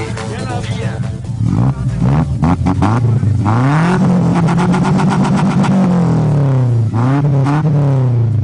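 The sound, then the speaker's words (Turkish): The engine of a Şahin car with a manifold catches and runs loudly, its droning tone climbing as it revs, holding high for a few seconds, dipping, then rising again with another rev. “Tamam da hani motorun çalışma sesini de alalım.”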